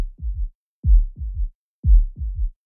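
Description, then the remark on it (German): Muffled, low heartbeat heard through a stethoscope: three paired thumps, lub-dub, at a steady slow rhythm, clear with no voices. “setzte das eine Ende auf den Brustbereich auf, legte das Ohr an das andere und hörte zu meinem Erstaunen und zu meiner Freude die Herzschläge weit reiner und deutlicher, als ich sie jemals beim direkten Auflegen des Ohrs vernommen hatte.”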